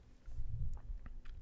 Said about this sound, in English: I should try and get my drink sounds in the microphone, just so y'all who are listening with the earbuds can hear all the sounds of me gulping and slurping, get all the drops in there. Get the glug, glug, glug, glug.